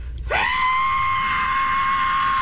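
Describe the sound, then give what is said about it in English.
A man's voice imitates the screeching, whistling sound of a plane, between a screech and a whistle: a quick upward sweep into a loud, steady, high-pitched whine held for about two seconds. “This is his impression of what the plane sounded like.”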